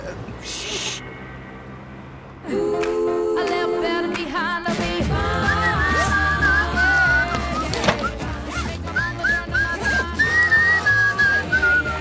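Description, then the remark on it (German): Someone whistles a wavering, sliding tune over a busy, noisy background, the whistle fairly loud, rising and falling in long phrases through the second half. “Kannst du mit dieser dämlichen Pfeiferei aufhören?”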